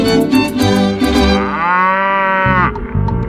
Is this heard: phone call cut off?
no